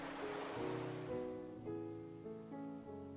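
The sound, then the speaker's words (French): A single ocean wave rushes onto the wet sand of a beach with a loud, hissing wash that recedes after about a second, leaving calm, sustained musical tones playing softly underneath. No one speaks. “Imagine le rythme inlassable des vagues”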